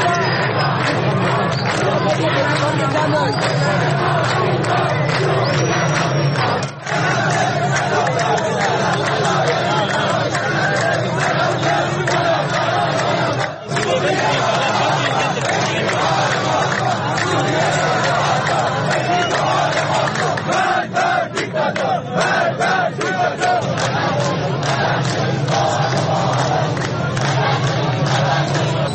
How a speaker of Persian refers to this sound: در تصاویر منتشر شده در اینترنت از تظاهرات اعتراضی برازجان که رادیو فردا مستقلن نمیتواند صحت و سقم آنها را تایید کند، شعارهای گوناگونی شنیده میشود که برخی شعارها پیشتر هم در تظاهرات اعتراضی دیگر در شهرهای ایران به گوش رسیده بود.